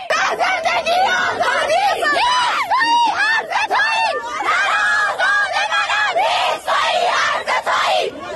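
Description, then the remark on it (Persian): A crowd of school students in Tehranpars, Tehran, shouts and screams protest cries together, loud and continuous, with overlapping high-pitched cries and chant-like yells rising and falling throughout. “این فریادهای اعتراضی دانش آموزان مدرسه‌ای در تهران پارس.”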